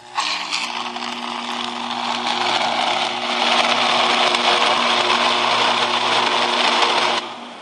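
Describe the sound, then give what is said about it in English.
A slot car's electric motor whirs steadily for about seven seconds, a buzzy high-pitched drone with faint humming tones underneath, growing slightly louder midway before cutting off abruptly. “Slot car.”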